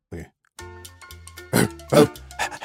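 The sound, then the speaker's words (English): A person playing a dog that is being trained imitates a dog, making grunting, whiny vocal noises that build into two loud, rough bark-like bursts near the end, with no clear words spoken. “you are a dog.”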